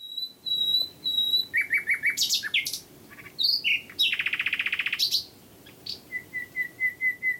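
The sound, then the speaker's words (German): A nightingale sings alone in a rich, varied song: pure sustained whistles, rapid rattling trills and sharp chirps in quick phrases, loud against a quiet background. “Wir hören uns sie mal an, so eine Nachtigall.”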